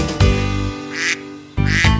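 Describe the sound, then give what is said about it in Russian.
A duckling quacks in short, nasal bursts, fairly loud, with brief gaps between calls and lower throaty sounds in between; no one speaks. “Однажды жарким летом решили спеть дуэтом лягушка и утенок.”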